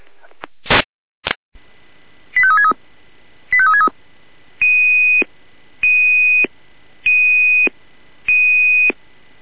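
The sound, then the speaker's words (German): Red Cross Salzland radio dispatch alerting tones over a faint hiss: a couple of sharp clicks, two quick stepped tone sequences, then five steady, evenly spaced beeps, each about a second long and fairly loud. “Alarmierung Rotkreuz Salzland 783-1, zurück nach Niederkrossen 45b in Ullstedt-Kirchhasel, Ortsteil.”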